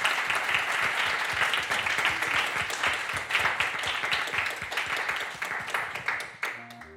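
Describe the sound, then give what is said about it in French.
An audience applauds the participants at the end of a discussion: dense overlapping claps forming a loud, continuous wash of noise that holds for several seconds before tapering off at the end. “Je crois qu'on va pouvoir vous applaudir.”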